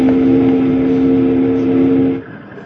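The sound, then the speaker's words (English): A steamboat whistle, sounded by pulling its whistle cord, gives one long, loud blast. It is a steady deep tone held for about two seconds before it cuts off abruptly, leaving faint background noise. “Pull that whistle cord again, Jingles.”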